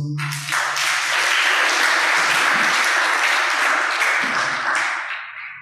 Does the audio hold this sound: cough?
no